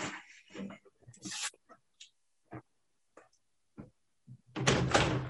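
A door is handled and opened to let in a cat that had knocked: a few scattered clicks and knocks from the latch, then a loud, sustained scraping rush as it swings open at the end.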